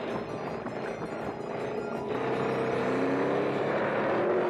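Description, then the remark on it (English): Racing cars roar along in a dense wash of engine noise that swells louder halfway through, with whining engine tones rising in pitch, as cement pouring down a slide rips the tires from the cars. No one speaks. “Cement pours down a slide. Shaggy misses it. It rips the tires from the other racers' cars.”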